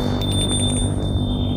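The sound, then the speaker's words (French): A gate bell at the gate of a house rings at 11 p.m. with a steady, high-pitched electronic tone that holds without a break, over a low background rumble. No one speaks. “Sonne au portail.”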